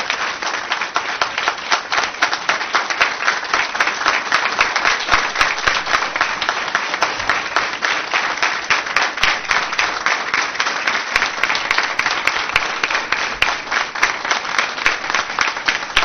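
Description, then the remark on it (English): A crowd applauds steadily for about sixteen seconds, a dense, even patter of many hands clapping at constant loudness with no voices rising above it. “So I'd like to first give a round of applause.”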